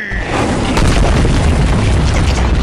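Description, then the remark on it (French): A door is smashed open with a heavy, booming crash that swells into a loud, sustained rumble of splintering noise lasting a couple of seconds, with no voices. “Pourquoi t'as cassé la porte?”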